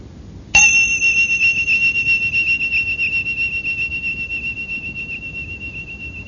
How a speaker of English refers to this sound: when the bell sounds, just really staying present in the hearing and waiting until the end of the bell before opening the eyes and moving.